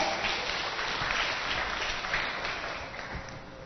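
A crowd claps steadily throughout, a dense, even patter of many hands that holds a fairly loud level and tapers slightly toward the end, with no voices over it.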